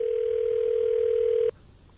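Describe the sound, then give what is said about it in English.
A single ring tone on an unanswered phone call: one steady, mid-pitched electronic burst lasting about a second and a half, then it cuts off, leaving only a faint low hum. “Okay, let's just give it 40 more rings.”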